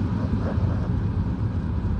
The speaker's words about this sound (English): The fans are like super loud in the car.